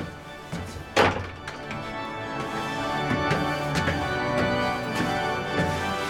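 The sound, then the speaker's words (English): A heavy door in a cathedral, leading to a spiral staircase inside one of its big columns, is pulled shut with one solid thunk, followed by a few faint echoing knocks and taps with a steady background hum. “Yes, we'll just pull the door over.”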